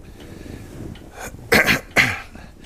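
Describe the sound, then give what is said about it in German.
A man clears his throat several times before he begins to speak, starting with soft low rumbles and ending in two loud, harsh bursts in quick succession, with no talking. “Nervös spielte er mit einem Taschentuch in seiner Hand und räusperte sich mehrere Male, bevor er anfing zu sprechen.”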